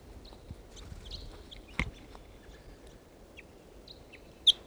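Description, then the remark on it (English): Wild birds by a tree in a park give short, high chirps scattered irregularly over a soft, steady background hiss, with a couple of sharp knocks and faint low thumps in between; no one speaks. “Here's that wild bird.”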